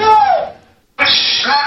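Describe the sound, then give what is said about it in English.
A parrot imitates a man's and a woman's voices, going back and forth between them, in two bursts of speech-like chatter separated by a brief silence, the first fading out and the second starting abruptly, both loud and harmonically rich with a band-limited, tinny quality. “It just says it goes back and forth, mimicking their voices.”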